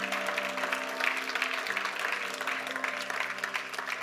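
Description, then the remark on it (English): An audience claps their hands in a dense, continuous wash of applause, steady and fairly loud throughout, with a faint sustained musical tone underneath. “Let's go ahead, Lord, a hand clap.”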